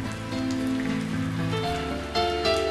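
Steady rain pattering on a surface, a continuous soft hiss of drops under gentle sustained musical tones that shift pitch a couple of times, with no one talking.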